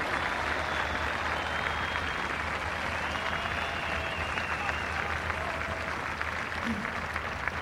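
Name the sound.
audience applauding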